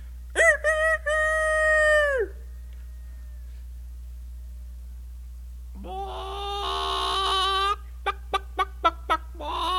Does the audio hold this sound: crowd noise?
no